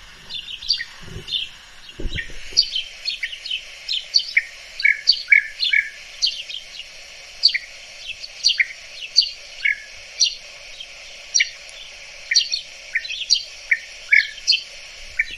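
Many short, bright chirping calls from several birds overlap throughout, a busy chattering flock calling steadily, with a brief low rumble near the start. The birds keep in contact and usually occur in large groups; recorded in a garden in Hungary.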